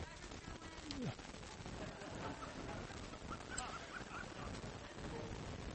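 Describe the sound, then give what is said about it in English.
A small child squawks and squeals in short, high bursts in the audience during a church sermon, with a steady murmur of background chatter underneath. “Whose child is that?”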